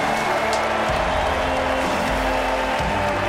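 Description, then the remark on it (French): A large stadium crowd in Paris, everyone standing, applauds tennis player Carlos Alcaraz as he arrives for his match against Novak Djokovic, a dense, continuous wash of clapping that stays steady and loud for the full few seconds, with a low rumble running underneath. “Et première indication à l'applaudimètre, ça aura son importance pour qui le public parisien basculera.”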